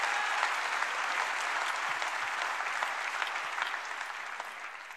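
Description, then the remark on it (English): An audience claps their hands at a preacher's call in a dense, steady wash of applause that holds at a fairly even loudness for several seconds, easing off slightly toward the end, with no voices heard. “I want you to clap your hands if you believe in the foundation that is unshakable.”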